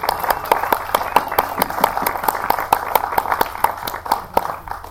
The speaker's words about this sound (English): And so we want to give her a major round of applause.